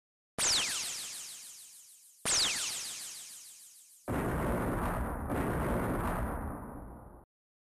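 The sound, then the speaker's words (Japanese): Two heavy explosions boom in the distance a couple of seconds apart, each trailing off in a long fading rumble, followed by a sustained, roaring blast of noise that cuts off abruptly. No voices are heard. “遠くで2つの爆発音が聞こえたような気がします。”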